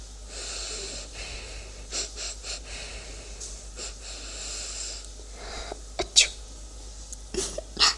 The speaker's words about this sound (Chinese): 怎么样，姐姐，味道如何呀？受不了吗？还打喷嚏了？